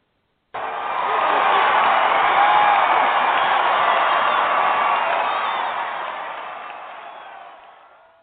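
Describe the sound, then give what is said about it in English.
A crowd cheers and applauds loudly, a dense wash of clapping and whoops that starts abruptly, holds steady for several seconds, then gradually fades out. No one speaks over it. “You hear your cheers? Yes, ma'am. I heard them.”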